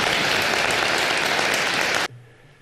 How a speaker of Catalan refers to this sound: En acabar, doncs, la xerrada, aquest llarg i sentit aplaudiment certificava la complicitat que Carme Ortoll havia generat en l'auditori abans de cloure l'acte